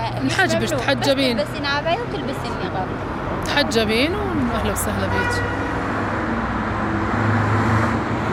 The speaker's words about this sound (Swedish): En buss har just kommit från Raqqa.